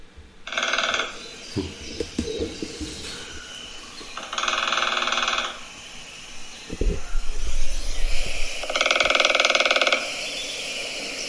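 lesser spotted woodpecker drumming

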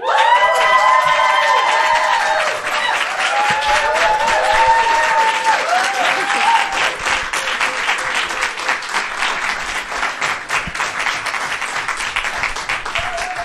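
audience applause and cheering

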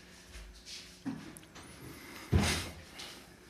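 door being closed

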